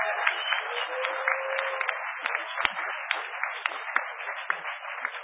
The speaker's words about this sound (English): Let's give a huge round of applause for the Meta Lab for getting that going. That's awesome.